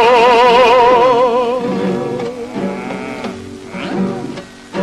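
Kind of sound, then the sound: animal, cow mooing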